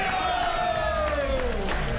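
A crowd applauds and cheers for a performer in a steady, dense wash of clapping, while a long whistle slides slowly downward in pitch above the noise.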